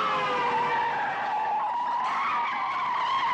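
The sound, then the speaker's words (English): Sustained, loud tire squeal from a skidding car, a shrill tonal screech with wavering pitch that holds steady for several seconds, with engine roar beneath and no talking. It is the car chase in Hitchcock's film Family Plot: a car with cut brakes going down a steep highway with hairpin turns. “One of my favorite scenes from this movie is the car chase scene.”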